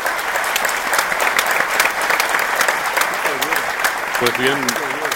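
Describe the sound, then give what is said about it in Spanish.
A large crowd applauds steadily and loudly at a ceremony, after the reading of a declaration dated Buenos Aires, 21 May 2020, and before its signing by 12 signatories. A dense wash of clapping holds for the whole stretch, with a few voices rising faintly beneath it near the end. “Pues bien, escuchamos el gran aplauso, lo hemos cortado por razones de tiempo simplemente.”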